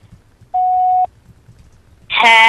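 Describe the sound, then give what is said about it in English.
A single steady, mid-pitched electronic beep of an answering machine, signalling the start of a personal greeting recording, sounds for about half a second over a faint low hum, followed by a pause before a voice begins speaking. “Please record your personal greeting after the beep.”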